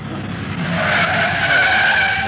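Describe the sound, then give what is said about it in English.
A speeding taxi skids hard to a stop at 167 Lausanne, tires squealing in a loud, sustained screech that rises and holds for a couple of seconds over engine rumble, with no talking. “My name may be Speed, but I don't like it this fast. Oh, driver, slow down.”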